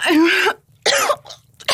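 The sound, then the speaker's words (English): A woman coughs harshly while swallowing semen, fairly loud: a long strained cough, then a shorter one, a faint catch, and another cough starting at the end, with no talking. “I'm starting to cough up some cum.”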